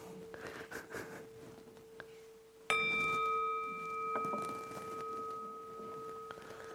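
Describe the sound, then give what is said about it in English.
A single gong strike at the end of a meditation rings out clearly partway through, its bright metallic overtones sustaining and slowly fading with a gentle wobble over a faint steady hum, no voices present. “It's got a wobble sound.”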